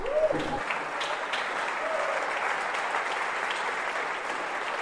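An audience applauds steadily, a dense, even patter of many hands clapping that holds at a constant level throughout, with a brief voice at the very start.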